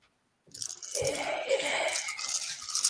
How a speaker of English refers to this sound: Now I roll. You get all the dice.